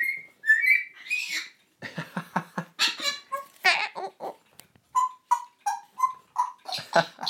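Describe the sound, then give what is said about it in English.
A pet bird, Lily Bird, whistles after hearing a police car siren outside, opening with a sliding whistle and then breaking into a quick string of squeaky chirps and clicks, ending with repeated short mid-pitched whistled notes. No one speaks. “Well, Lily Bird stopped dead when she heard it. Almost like, so I can do that too.”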